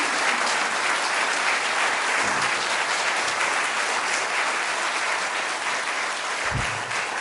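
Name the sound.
audience applause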